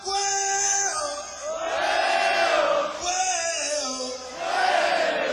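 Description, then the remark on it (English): A crowd cheers and yells together in loud, sustained surges, swelling in a few waves with brief dips between them, many voices blending into a roaring shout. “Let's hear everybody's cheer one more time.”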